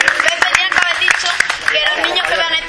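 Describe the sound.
An audience at a summer school event applauds a parent with dense, steady clapping that carries on for the full length, loud and continuous, with a murmur of voices mixed into the crowd noise.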